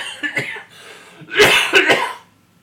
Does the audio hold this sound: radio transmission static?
no